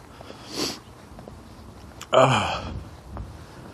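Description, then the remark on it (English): Breathy nasal sniffs: a short sniff, then a louder, harsher snort lasting about half a second, followed by a faint final sniff, with no talking. “Sniff snorting away here.”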